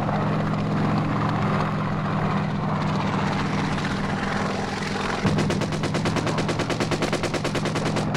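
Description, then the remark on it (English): A military helicopter flies in to a landing zone, roaring overhead, its steady low rotor thump and engine whine filling the air, with a rapid pulsing chop growing sharper partway through as it comes in. “Getting out of those choppers and getting off the LZ. We're going in.”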